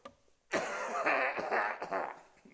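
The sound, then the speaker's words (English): A man clears his throat in a few rough, rasping bursts over about two seconds, fairly loud, with no talking; a pastor pausing while reading a Bible verse aloud. “And it says in verse 23, let me clear my throat.”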